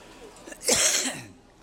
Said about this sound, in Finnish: Minä vähän etukäteen arvelin, että saapa nähdä, pystynkö minä puhumaan, kun minulla on niin paha yskä.